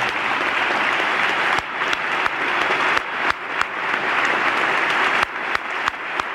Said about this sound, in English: Now, you'll hear there, you'll hear at the end, you heard that extra amplified clapping. I couldn't be sure it was Clinton because this was the 1997 State of the Union, but it's positively ancient in terms of production values.